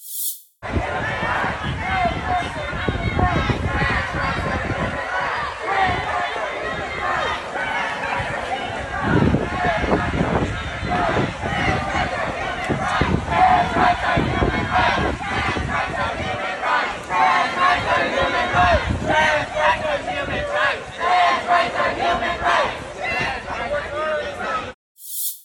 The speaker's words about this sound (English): And as we were getting ready to drive away, they came over to the car to chant some more. Here's what that looked like.